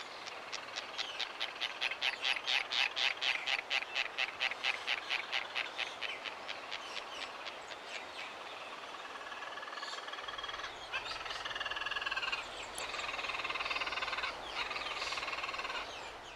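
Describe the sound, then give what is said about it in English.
A white tern (fairy tern, or Manu Oku), a protected Hawaiian seabird, gives its raspy call: a fast, steady stutter of harsh, buzzy notes that runs for several seconds, then gives way to scattered rasping cries over a constant background hiss. “You may know them as white terns or fairy terns.”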